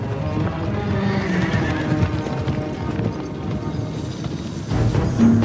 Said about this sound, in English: Then came the sound of approaching hooves.